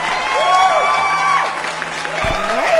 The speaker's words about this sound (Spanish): Soy sorda, mi amor, no oí los aplausos, pero ya me dijiste que sí, ¿verdad?